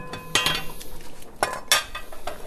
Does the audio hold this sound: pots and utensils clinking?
yes